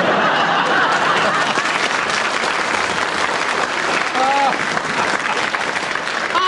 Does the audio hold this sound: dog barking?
no